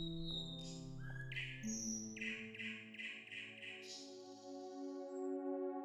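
nightingale singing

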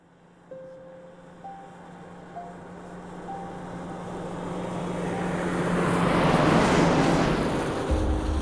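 car driving in traffic

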